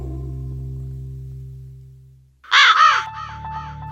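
A loud, harsh raven caw sounds in a quick burst of two or three croaks, following a low steady hum that fades out beforehand. No one speaks.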